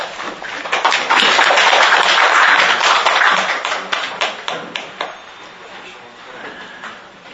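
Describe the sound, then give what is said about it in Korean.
Applause from an audience at a forum on the Yongsan tragedy as lawmaker Kim Hee-cheol comes forward to give greetings: dense, crackling clapping that swells quickly and holds strong for a few seconds, then thins into scattered individual claps before fading out. “나오실 때 큰 박수 부탁드립니다.”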